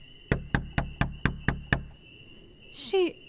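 Seven hard, quick, loud knocks on the wooden door of a house come in a steady, even rhythm. They are followed by a short rising vocal sound, with a faint steady whine in the background.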